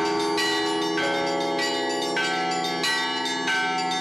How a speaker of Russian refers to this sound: Полторы минуты на произвольный звон, 1,5 на пасхальный. Времени очень немного, но для того, чтобы задействовать все колокола звонницы, достаточно.